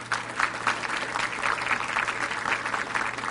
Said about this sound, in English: Give her a big hand clap.